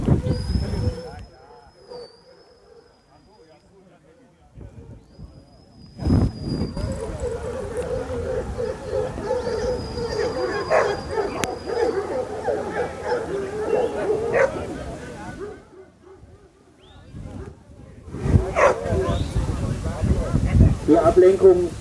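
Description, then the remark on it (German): A pack of hunt dogs barks and yips in a noisy overlapping chorus as they run to the master at his signal and gather, rising and falling in bursts, with a thin whistle-like tone heard early on and quieter stretches between louder outbreaks. “Und auf sein Signal her sollen die Hunde zum Master laufen und sich dort geschlossen versammeln.”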